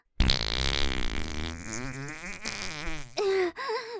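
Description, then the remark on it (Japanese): A long, loud fart, let out in a toilet cubicle after a bowel movement and onto another person's face, sputters and flutters for about three seconds with a wavering pitch, followed by a short, high, whimpering vocal sound. “隣人さんの顔におなら引っ掛けちゃった。”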